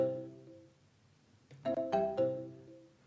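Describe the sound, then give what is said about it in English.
A phone ringtone for an incoming call from a UK number plays with no one speaking, a fading tonal chime followed by a cluster of sharp, bright melodic notes that ring out clear before tapering off. “It's ringing again. This is a UK number.”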